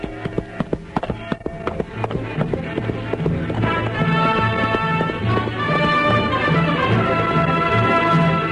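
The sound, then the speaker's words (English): Horse hooves gallop in a quick, steady rhythm of sharp clops in the DuPont Cavalcade radio play "Listen, My Children", a rider setting out to spread the news, joined by swelling orchestral music that builds and grows louder beneath the hoofbeats. “You're not going to ride again."”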